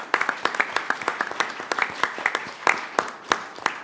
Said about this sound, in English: I want to take a moment to applaud him.